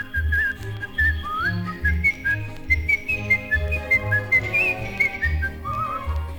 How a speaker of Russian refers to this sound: Я эту песенку могу не только вам напеть, но если нужно просвистеть негромко.